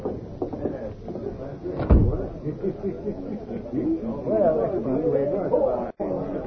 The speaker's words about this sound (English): Step inside, I'll shut the door.